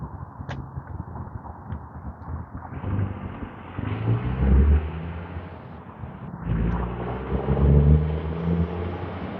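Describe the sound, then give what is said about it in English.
A large, noisy pickup truck rumbles past with a heavy low engine roar that swells, dips briefly, then surges again before easing off. No one speaks. “A garbage truck coming? No, they're just a very noisy, very large pick 'em up.”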